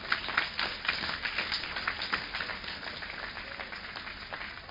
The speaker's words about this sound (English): Give the Lord a clap of praise.